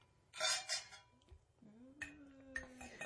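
Cheap dollar store wine glasses holding mead clink together twice in a toast, each bright impact leaving a short high ringing tone, with a brief murmuring voice in the pause between the two toasts.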